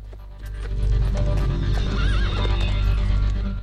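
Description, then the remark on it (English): Horses whinny loudly, a wavering neigh rising above a steady low rumble while hooves clop and shuffle to a halt as Sindel and Shao Kahn stop their horses. “Sindel and Shao Kahn stop their horses and look over at them.”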